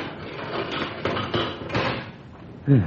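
A metal animal cage door is worked open with a few sharp clanks and rattles spread over a couple of seconds, followed by a brief low voice-like sound at the end.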